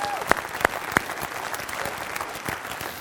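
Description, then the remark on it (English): A church audience applauds a song just performed, in a steady, dense wash of clapping, with three louder, sharper claps standing out near the start before the applause carries on evenly. “Yeah, I'll applaud it one more time.”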